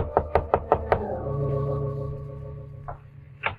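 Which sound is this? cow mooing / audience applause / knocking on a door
knocking on a door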